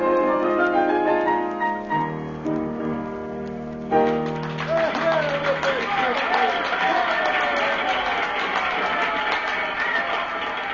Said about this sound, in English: The cafe, it is filled again tonight, and everyone is shouting for more.